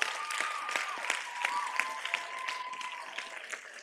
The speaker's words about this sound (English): Clap for Jesus.